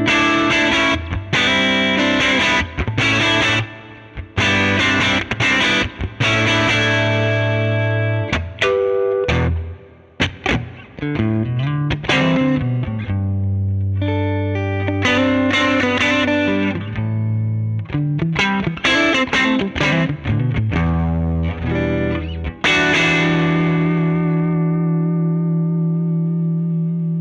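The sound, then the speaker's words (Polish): Overdriven electric guitar through an amplifier playing a bluesy phrase of bent notes and chords, loud, with a warm crunchy distortion and a final chord left to ring out. “Nie no, do bluesa jest wzmacniacz rewelacyjny, ten przester jest przepiękny.”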